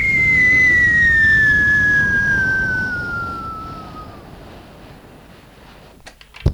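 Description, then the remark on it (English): A car zooms up with a loud roar and a high whine that steadily drops in pitch, then fades away, followed by a few sharp clicks near the end. “I've just come here on my super duper zoom car, which you heard got a little microphone in the case.”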